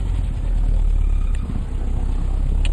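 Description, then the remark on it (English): A motorcycle escort's engine rumbles steadily and loudly, a deep continuous drone that holds fairly even throughout, with no voices and only faint high-pitched clicks above the engine noise. “The motorcycle escort.”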